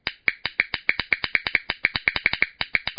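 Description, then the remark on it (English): A rapid train of sharp, dry snapping clicks from a grasshopper's hind wings in flight, each snap made as the wing veins flex between two positions, roughly six per second and slightly uneven in rhythm, crisp and bright with no voices. “The vein flexure generates an audible snap, like a dog's training clicker.”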